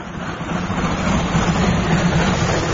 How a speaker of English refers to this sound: The train is going up the hill.